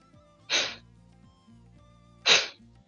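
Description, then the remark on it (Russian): Two forceful, hissing exhales of a pranayama breathing exercise, with air pushed from the lungs by the abdomen and diaphragm, burst out about two seconds apart, each short and breathy with a sharp start, over a faint low hum and no talking. “Ну, примерно так вот там слышно, наверное, там с шипением.”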